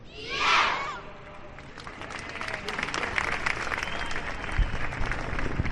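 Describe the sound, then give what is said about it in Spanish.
A crowd lets out a single loud, high-pitched shout lasting under a second, ending a Santa Águeda choir song in the streets of Bilbao, Basque Country, on the eve of Santa Águeda; it gives way to steady, sustained applause and clapping for several seconds. “Con este grito han finalizado y están finalizando decenas de coros en toda Euskadi, algunos de sus cantos de Santa Águeda en esta festividad tan arraigada en nuestra tierra, en la víspera precisamente de Santa Águeda.”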